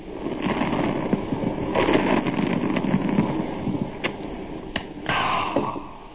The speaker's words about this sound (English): Remember, for real enjoyment, all you have to do is pop a cap. Wow. Then take a nice long sip.